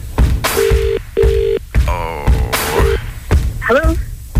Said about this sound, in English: Ooh, bit of a ringing tone, that's good. Ooh, please pick up, please pick up.